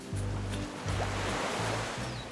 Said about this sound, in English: Today, he lives just a stone's throw from the beach, in Barbados. Outside his window, you can see the crystal water, hear the waves crash.